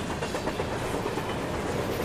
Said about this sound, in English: Maybe a dust storm. The sound of a freight train.